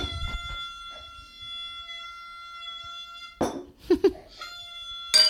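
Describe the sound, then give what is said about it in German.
Glasses clink together in a toast, leaving a bright, high ringing tone that hangs for a few seconds before fading, followed by scattered rustling, squeaks and a second sharp clink. “Und in diesem Sinne stoße ich mit dir an”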